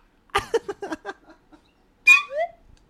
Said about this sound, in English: This is a new invention. This? Where do you get a proper slide whistle?